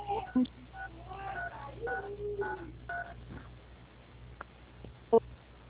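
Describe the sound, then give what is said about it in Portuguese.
Telephone keypad tones sound over a muffled phone line as a woman presses keys on her phone during a call to a Banco Santander authorized correspondent, a few short bright beeps scattered among murmured background voices, with a couple of sharper clicks near the end. “A senhora está discando no telefone.”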